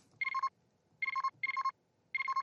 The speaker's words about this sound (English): As you say that, you guys are hearing the comm beep.